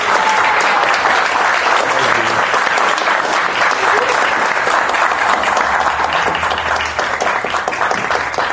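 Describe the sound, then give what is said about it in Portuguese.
Sustained audience applause for comics artist Marcelo de Salete, guest on the comics program Kitnet HQ on Rádio Cultura de Curitiba: a dense, steady wash of many hands clapping at an even loudness throughout, with no voices standing out above it. “Não, o cara merece as palmas, né?”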